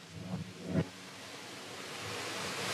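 A reversed, panned steam hiss from water put on a hot stone, recorded on a phone and used as a build toward a song's bridge, swells steadily, its bright, airy rush growing louder toward the end, with a couple of soft low thumps near the start and no voices.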